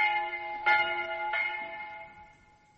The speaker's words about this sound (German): Haltet an jetzt die Glocke, zu des Teufels Morgen läutend.